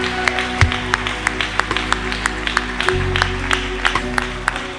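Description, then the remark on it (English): A church audience claps their hands for the Lord in a lively, uneven burst of applause, sharp individual claps standing out over a steady low hum of sustained background tones, with no speech. “Come on, give the Lord a hand clap right there where you are.”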